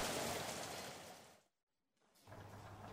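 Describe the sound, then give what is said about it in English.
Steady, hissing rain pours for a second and a half, cuts to near silence, then resumes a little softer with a low hum beneath it. No one speaks. “And it's raining.”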